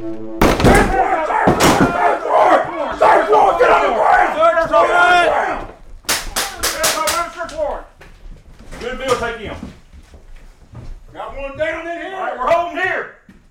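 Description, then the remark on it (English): Loud, sharp crashes and bangs ring out as the Monroe County SWAT team breaks down the door of a vacant house during a drill, with several men shouting commands over each other in bursts; the yelling is forceful but the words aren't clear, ending in a few more shouted calls. “An enormous crash pierced the silence. There was some yelling, but from the inside, I couldn't understand what they were saying.”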